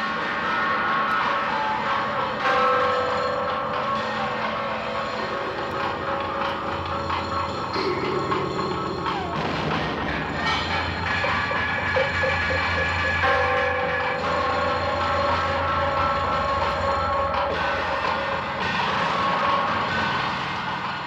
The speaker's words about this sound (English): That is the Texas Chainsaw Massacre, some of the theme music that courses through the entire film.